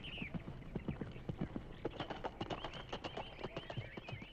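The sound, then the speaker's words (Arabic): A horse's hooves clip-clop in a steady, brisk rhythm as it goes off to look for Qurud, a long run of sharp knocking beats at moderate loudness with a faint high whistle-like tone in the background. “وهكذا يا أحباء ذهب الحصان ليبحث عن قرود، لأنه فعلا كان يعرف المكان الذي يختبئ فيه.”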